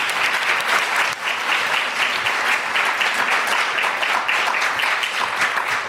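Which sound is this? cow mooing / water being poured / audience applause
audience applause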